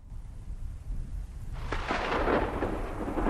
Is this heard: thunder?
yes